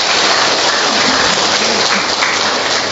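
A loud, sustained round of applause from many hands to welcome three people, a dense steady patter of clapping that holds at full strength for the whole stretch, with no voices standing out.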